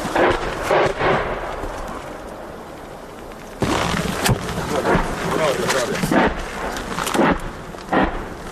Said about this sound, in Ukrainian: А це вже працюють гради, кидають по кілька снарядів, змінюють координати, переміщуються і кидають знову кілька снарядів. І так буквально за невеличкий період часу, поки ми тут, це відбувається регулярно.